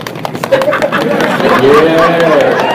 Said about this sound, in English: Everybody, stomp your feet like it's a drum roll, please. There we go.